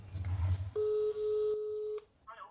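telephone call being dialed

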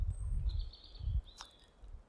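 birds chirping

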